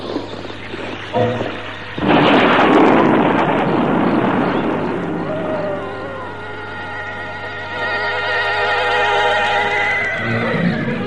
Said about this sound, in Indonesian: Kini kereta kuda Mak Rompang itu mulai turun.